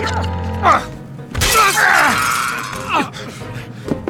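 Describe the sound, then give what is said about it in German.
A vase smashes with a loud, bright burst of breaking glass or ceramic, followed by a scattered tinkle of shards, amid tense voices and a short groan. “Die Vase, jetzt!”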